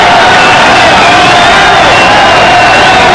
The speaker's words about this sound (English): I mean, I've never seen anything like it outside of a World Series. I haven't either. And we're in an enemy ballpark, and they're standing cheering Schmidt, the pitcher.